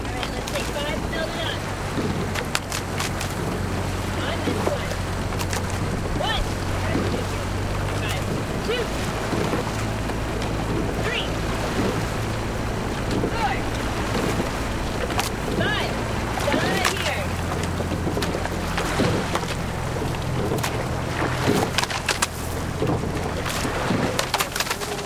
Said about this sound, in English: Every summer, Boston's best-known river is a host to several crews, in fact. Dennis Foley captured the sounds of these long and pointed shell boats racing up and down the banks of the Charles River.